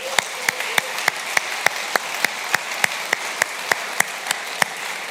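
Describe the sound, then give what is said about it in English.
A church audience applauds its college students, a steady wash of clapping with one sharp, evenly spaced clap standing out roughly three times a second. It holds at a moderate level for about five seconds, with no talking. “And so could we just quickly, as a church, rally around our college students with a round of applause for them.”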